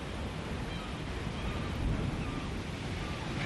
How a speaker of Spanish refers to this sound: Este sonido nos lleva hasta la costa gallega. Es el Atlántico rompiendo contra las olas.